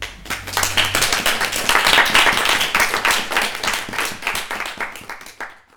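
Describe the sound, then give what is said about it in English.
A round of applause from a group for the staff of the journal 11/11 at an evening event, dense overlapping hand claps rising quickly, holding steady for several seconds, then thinning into scattered claps before stopping. “So I think a round of applause for them.”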